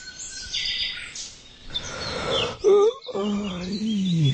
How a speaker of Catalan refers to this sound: Quan es va despertar, el sol brillava i els ocells cantaven al seu voltant.